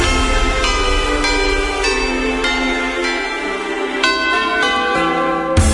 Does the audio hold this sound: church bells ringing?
yes